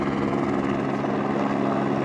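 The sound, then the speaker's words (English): A helicopter hovers overhead at about 100 feet above a snowpack while its crew opens a valve blending oxygen and hydrogen in a suspended bell; its steady rotor drone and engine whine loud and continuous with a faint rhythmic chop. No one speaks. “The helicopter crew opens a valve, blending the gases.”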